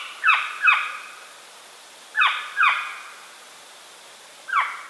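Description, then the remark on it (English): Northern saw-whet owl, one of North America's smallest owls, giving its fall skew call: harsh, raspy calls that slur downward, two quick pairs followed by a single call, clear against a quiet background. “In the fall, the birds make a skew call.”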